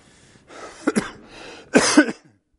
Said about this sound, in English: I still do have a bit of a cough, but we've already worked it out with the audio folks that they're going to anticipate every time I cough and turn the volume down. So it won't, hopefully it won't be disturbing you too much.